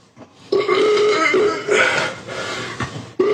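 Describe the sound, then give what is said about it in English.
A long, loud fart with a buzzy, tonal rasp, stretching over about three seconds in a few wavering bursts, followed by a short final blast. “Start sending me some gassy ass beans so I can make these farts even bigger.”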